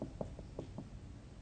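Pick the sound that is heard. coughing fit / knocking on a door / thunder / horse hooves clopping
knocking on a door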